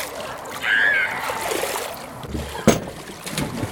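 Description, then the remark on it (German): Outdoor public swimming pool on a mild, slightly cloudy afternoon at 24 °C, with children's voices and shouts, water splashing, and a sharp thud around the middle like a diving board springing, all fairly soft and steady. “Fahrräder stehen am Eingang und dann hört man auch endlich die Kinder. Wasser und das Sprungbrett des Freibads.”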